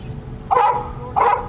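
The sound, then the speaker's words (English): A Karelian bear dog, a state-owned wildlife service dog that confronts wild bears, barks twice, two sharp, loud barks about half a second apart, over a low background rumble. “When it's time to go nose-to-nose with a wild bear, Carilion bear dog Cash won't back down.”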